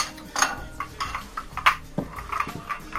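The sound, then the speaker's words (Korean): Teacups and a teapot being cleared away after tea, before going to bed: a scattered series of light china clinks and soft taps at an irregular pace, moderately loud, with no one talking. “그리고는 찻잔과 주전자를 치우고 자려고 누웠다.”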